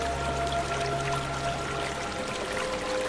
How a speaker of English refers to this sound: So we're surrounded here by the most beautiful nature. We have the river behind us, and we've got the beautiful trees all around us with the moss and the ferns.